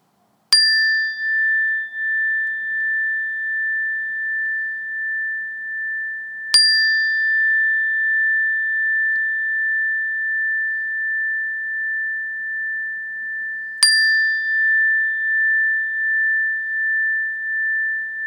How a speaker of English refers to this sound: And when I do, I want to invite you to shift your awareness to your hearing sense. And you might even just label hearing or sound. When you hear the bell, notice it, be aware of it until you can't hear it any longer or until it's no longer there.